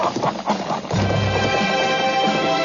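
Horse hooves clip-clop steadily, joined partway through by a sustained tonal sound that resembles a horse's whinny, with no voices present.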